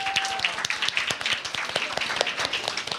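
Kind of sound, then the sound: crowd, round of applause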